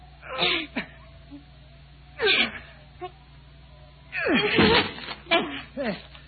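A door being broken down by two people pushing together: a few heavy thumps with strained grunts of effort, then a longer, louder burst of crashing as it gives way, followed by a couple of quieter knocks.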